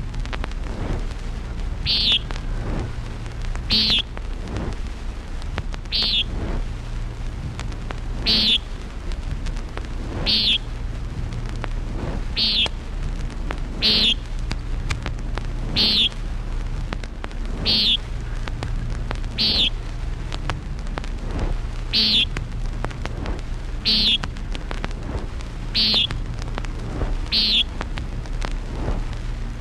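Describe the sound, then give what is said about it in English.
Common nighthawk calls: a sharp, buzzy nasal peent repeated steadily about every two seconds, clear above a constant low rumble of wind or traffic. “Common Nighthawk.”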